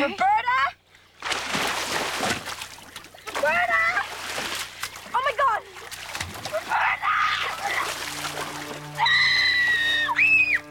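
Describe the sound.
A loud splash as someone jumps from a tree into shallow water, followed by continued churning and splashing, with high-pitched shouts and screams cutting through the commotion.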